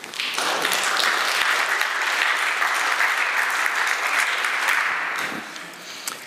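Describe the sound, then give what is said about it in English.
A crowd applauds steadily for about six seconds, a dense wash of many overlapping claps at a fairly loud, even level that thins out and fades toward the end, after a tech talk demo of a Xen kernel running on KVM. “Applause is nice now.”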